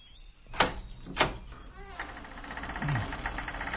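Two heavy thumps against an old, unlocked door in a castle, then a long, rasping creak as it slowly grinds open, with a brief low groan near the end.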